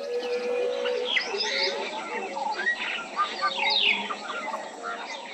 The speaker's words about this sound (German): Im dichten grünen Regenwald mit seinem Gewirr aus Bäumen, Lianen, Farnpflanzen, Moosen und Wurzelwerken ist eine Geräuschkulisse zu hören, in die sich der Gesang der Aka-Pygmäen nahtlos einfügt.